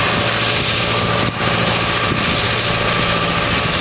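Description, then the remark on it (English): The engine of a Blue River mechanical crop thinner, with a spinning blade, runs steadily as it moves through a field at about 2.8 miles an hour over three 2-meter beds with 18 seed lines, a loud, dense mechanical drone and a faint hum, briefly dipping once, without any talking. “he feels that there's people out there that want a mechanical type of thinner”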